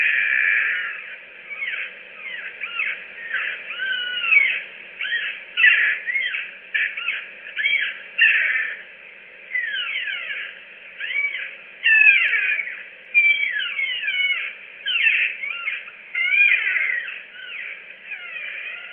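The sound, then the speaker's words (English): A creaky back door groans and squeals over and over, its high, whiny hinge notes sliding up and down in long rasping sweeps that swell and fade, with no voices. “And the sound I'm submitting for you is of a creaky back door.”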